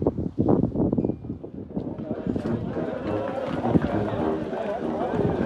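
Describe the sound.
Strong wind buffets the microphone with a constant low roar and gusty rumble, close and loud, while a man talks over it throughout.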